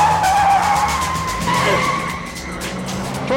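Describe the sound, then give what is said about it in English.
A woman driver speeds off from a sheriff's deputy at a traffic stop: the car engine roars as tires screech and skid in sustained high-pitched squeals, the loud rumble shifting in pitch as the vehicle accelerates away, with no one speaking. “Without warning, she blinds the officer with the spray. Then she speeds off.”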